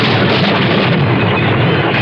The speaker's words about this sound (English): Listen. Did you hear that? Yes. It was thunder. It was more than just thunder. It means the rainy season's about to start.